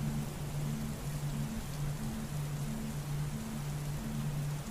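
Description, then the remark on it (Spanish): Steady, heavy summer storm rain hisses continuously without a break, with a faint low hum pulsing in a regular rhythm underneath; no voices. “Así que disfruta de esta tormenta de verano.”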